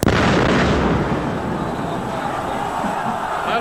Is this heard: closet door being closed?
no